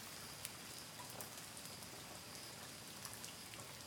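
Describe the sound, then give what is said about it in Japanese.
Light rain that has just started to fall patters down steadily, a dense hiss of drops with scattered sharper ticks of individual drops striking a surface. No voices, just the continuous wash of rainfall. “あ、雨降ってきちゃったか。”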